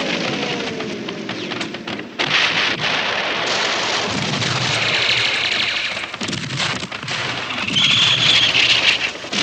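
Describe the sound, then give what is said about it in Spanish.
Dense, continuous battlefield din of explosions and artillery fire, with repeated heavy blasts and rumbling booms layered over a loud, chaotic roar that fills the whole stretch without pause. “Sus tropas saltan descuartizadas por las explosiones.”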